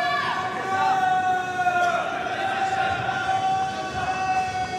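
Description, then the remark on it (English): A large tennis crowd shouts and cheers on a break point for Zverev against Rune, in a continuous, dense roar that stays loud for the whole stretch, with sustained high-pitched voices and whistles riding on top. “Oh, this crowd.”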